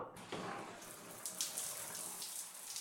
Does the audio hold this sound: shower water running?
yes